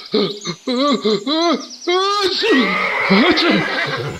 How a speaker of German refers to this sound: Ich kann den Gaul nicht. Ah! Verdammt, das Pferd geht durch. Es rennt davon.